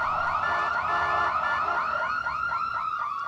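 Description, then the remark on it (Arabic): An ambulance siren wails loudly and continuously, its high tone sweeping up and down in quick, repeating cycles of roughly a third of a second each, with no voices present. The ambulance has come to take a sick student. “لأنتظر وأرى بنفسي من ستكون الطالبة المسكينة التي ستركب في سيارة الأسعاف.”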